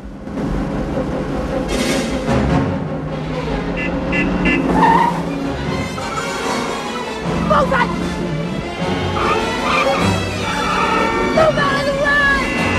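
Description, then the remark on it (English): A woman's car speeds hard through traffic, its engine roaring loudly and steadily as tires squeal and skid in short bursts, with a dense wash of other road noise and faint voices around it. “Debbie drives her second car. The number plate reads, Debbie 2. She races through traffic.”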